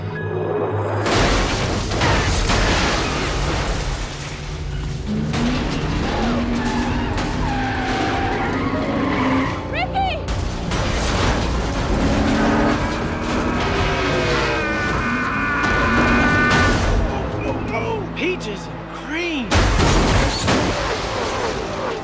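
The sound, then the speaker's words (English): Ricky Bobby's Wonder Bread race car skids with loud, wavering tire squeals and roaring engine noise, punctuated by heavy crashing impacts and booms, a continuous chaotic wreck lasting over twenty seconds, coming to rest in a big cloud of smoke. “Comes to rest in a big cloud of smoke.”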